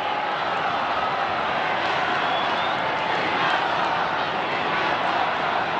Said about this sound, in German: Jetzt kommt. Wir hören den Jubel der Menge. Es scheint sich etwas anzubahnen auf der Mittelloggia des Petersdoms.